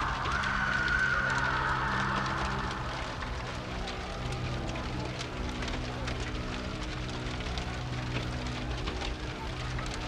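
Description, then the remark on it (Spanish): A fire crackles steadily with scattered sharp pops and snaps over a constant low roar, fairly loud, continuing throughout without any clear talking. “Finalmente, solo quedó el sonido del crepitar del fuego en las cenizas de los acusados.”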